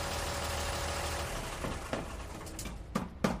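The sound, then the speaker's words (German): A truck that has pulled up in front of Bobo's house idles with a steady low rumble throughout, joined near the end by a few sharp clanking knocks. “Ein merkwürdiger Lärm hat Bobo heute aufgeweckt. Vor Bobos Haus ist ein Lastwagen vorgefahren.”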